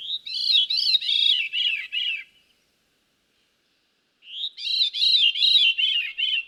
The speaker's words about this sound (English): Summer's most persistent singers, vireos. Oven birds. The evening chorus, Vireo's duet.